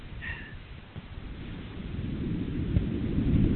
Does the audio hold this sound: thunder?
yes